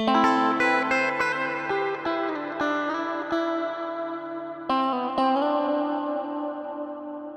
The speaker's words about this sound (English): With any of the reverb treatments discussed here, it's worth experimenting with mono reverb panned to the same place as the dry sound. This trick is commonly used to create a stronger sense of stereo placement.